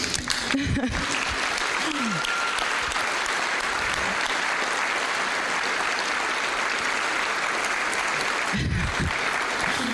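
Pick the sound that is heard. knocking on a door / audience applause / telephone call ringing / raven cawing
audience applause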